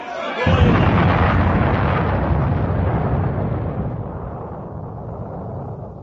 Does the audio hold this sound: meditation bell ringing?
no